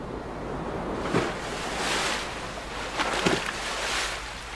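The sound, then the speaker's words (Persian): Steady rush of sea waves of the incoming tide washing in, with broad surges swelling and receding every couple of seconds and a few sharper splashes, continuous, no voices. “دریا در حال مد است.”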